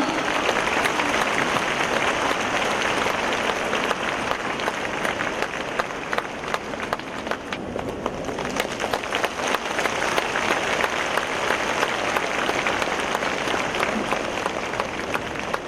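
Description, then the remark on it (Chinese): Sustained applause from a large audience welcoming radio station director Lu Junhong to read totems, a dense steady clatter of many hands clapping at an even loudness throughout, with no voices rising above it. “现在，让我们用最热烈的掌声，恭请尊敬的卢军宏台长为我们慈悲看图腾。”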